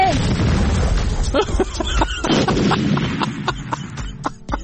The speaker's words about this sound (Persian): چه خبره؟ نترسید، ما همه با هم هستیم، نترسید، نه ترس، انفجار شد آخه.